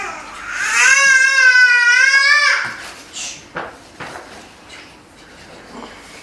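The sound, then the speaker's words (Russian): A baby lets out one loud, drawn-out wail lasting about two seconds, then trails off into quieter, intermittent fussing and small whimpering sounds. “У нас настрой, ребенок тоже настраивается.”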